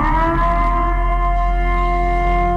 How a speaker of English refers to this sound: That somebody took video of the actual siren. It also sounds like there's like the movie music underneath it. You hear that? Like they literally took it off of YouTube.